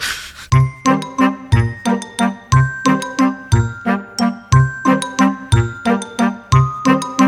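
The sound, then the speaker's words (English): A phone ringtone plays as an outgoing call waits to be answered: a bright, chiming melodic pattern repeating in a steady rhythm, loud, with no voices over it. “I'm going to give our friend Steve a call right now”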